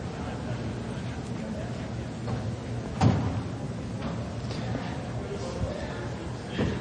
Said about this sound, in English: Would somebody close that door back there?